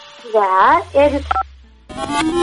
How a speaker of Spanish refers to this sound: Usted tiene que apretar del 1 al 10 un numerito ahí en su celu o teléfono, no sé. Del 1 al 10. Aprete nomás, señorita.